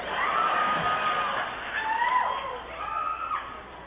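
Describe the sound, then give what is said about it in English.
An audience claps and cheers during a performer's turkey-themed rhyming act in a dense, steady wash of noise, with a few higher whoops and shouts rising above it for about four seconds, no clear speech. “I'm like, all I hear is clapping.”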